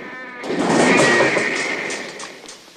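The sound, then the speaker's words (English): Bus tires burst with a sudden loud blast that swells into a harsh, hissing, crashing roar as the bus speeds up plaza steps toward a town hall, holding for a couple of seconds before slowly fading. Forceful, with no voices. “The tires explode.”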